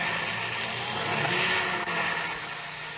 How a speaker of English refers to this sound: They're starting their motor. It looks as if they're coming.